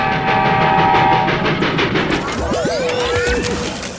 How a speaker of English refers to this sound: Because Mighty Mila the train is coming right for us, and she'll fall right in here.